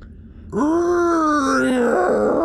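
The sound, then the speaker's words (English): A long, deep metallic groan from a metal bridge as it begins to shift, starting abruptly and holding steady for about two seconds, its moaning pitch wavering slightly and sliding downward near the end, loud and alone without talk. “and you hear a deep creak, like a moan from the metal, as things begin to shift.”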